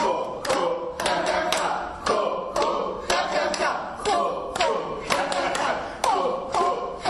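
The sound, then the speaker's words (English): A group of voices chants together in a steady rhythm during a laughter exercise session, punctuated by sharp, regular hand claps, at an even, lively volume throughout. “And voices chanting.”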